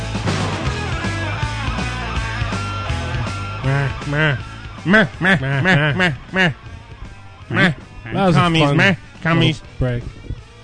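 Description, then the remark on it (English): Loud, nasal goose honks erupt in a rapid series of short, rising-and-falling calls, clustered in bursts over a steady low hum. “It's like fucking goose stuff.”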